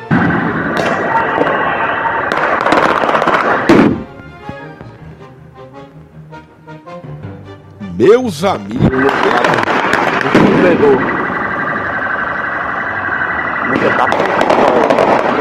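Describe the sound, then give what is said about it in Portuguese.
Rubber bullets crack in sharp, scattered bangs over a loud, chaotic crowd clash at a Botafogo football match, with a wailing, siren-like tone rising briefly midway. A man speaks during a quieter stretch in between. “Ônibus apetrejados, confusão, bala de borracha, é o elastômero.”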